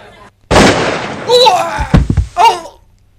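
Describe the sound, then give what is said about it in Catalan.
One loud gunshot cracks out and rings off briefly in a saloon shootout as a man rising from his chair is shot before he can draw his gun, followed by short strained vocal sounds, like a groan and a cry, with no other shots. “un seguidor de García s'aixeca de la cadira, però no té temps ni de desenfundar.”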